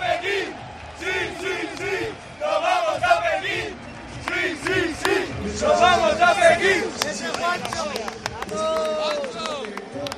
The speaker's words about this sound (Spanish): Aplauden los aficionados españoles a los que tenemos aquí. ¡Qué alegría!